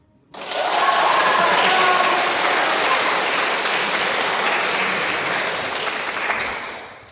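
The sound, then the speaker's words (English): A burst of audience applause starts abruptly and holds steady as a dense, crackling wash of many clapping hands, tapering slightly toward the end. No voices stand out. “Who is that applauding?”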